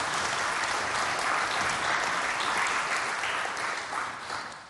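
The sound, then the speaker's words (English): An audience claps steadily for several seconds for readers who have just read a psalm, a dense, even wash of applause that tapers off slightly at the end. “Should we give them a clap? Because they were very good readers.”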